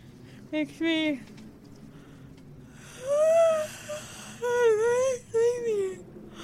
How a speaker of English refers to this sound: Sociopaths don't feel empathy, so you know how yawning is contagious. The sociopath won't catch the yawn. We all have to yawn, and whoever doesn't catch it is a sociopath.